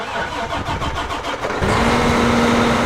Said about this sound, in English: That tractor is attached to a planter that can seed 48 rows at a time. That's an 80-foot swath on one pass through the field. And on the straightaways, the tractor can steer itself.